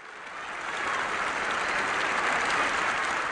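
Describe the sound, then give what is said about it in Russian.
Sustained applause from a large crowd in the United Nations General Assembly greeting anti-apartheid leader Nelson Mandela, broadcast by UN Radio, a dense steady roar of clapping that swells in over the first second and then holds loud and even throughout, with no voices standing out. “Его встретили бурными, нескончаемыми аплодисментами.”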